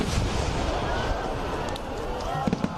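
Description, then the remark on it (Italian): Fireworks at a fireworks display crackle and pop over a steady wash of crowd noise, with a few sharper bursts near the end. “Per chi segue uno spettacolo pirotecnico, invece, un susseguirsi di colori ed esplosioni.”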